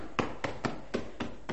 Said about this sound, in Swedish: Och där börjar han att bulta på dörren, järnet.